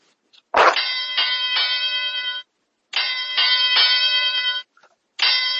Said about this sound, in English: But anyways, hit that bell